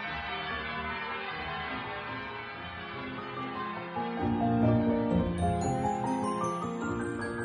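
Electronically simulated church bells, rung from a keyboard in a virtual bell tower, ring continuously, their overlapping tones blending into a dense, sustained peal that swells a little fuller partway through, with no voices present.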